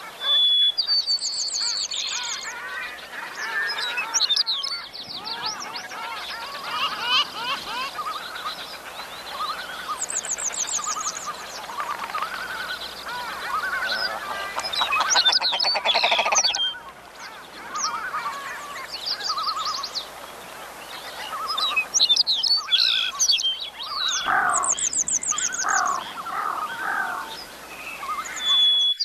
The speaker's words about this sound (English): And he mentioned the CD, and there are some beautiful songs of birds on that CD. Let's listen for a few seconds.